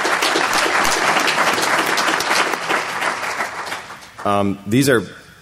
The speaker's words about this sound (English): So I want to give a warm round of applause for these guys for being here today.